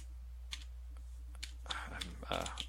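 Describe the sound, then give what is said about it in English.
Soft, irregular clicks of typing on a computer keyboard, a handful of keystrokes spaced unevenly and picking up toward the end, fairly quiet, with a faint murmur in the background. “I'm typing in automation”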